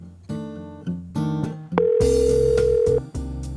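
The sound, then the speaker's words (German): A steady electronic telephone tone sounds for just over a second, a call to the person handling registrations for horseback rides, layered over a bed of chiming instrumental music; no one speaks. “kümmert sich am Telefon um die Anmeldungen für die Ausritte.”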